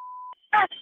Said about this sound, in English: Those are the fire alarms going off because she's fired up.